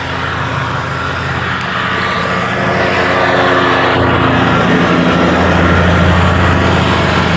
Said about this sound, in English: I'm going to get past this mowing machine.